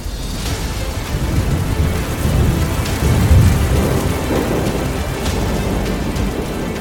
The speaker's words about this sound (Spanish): Y es este último quien provoca las lluvias torrenciales.